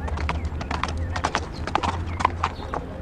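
Horse hooves clip-clop in a steady, uneven trot, a dozen or so sharp knocks over a few seconds, clear above a low background rumble.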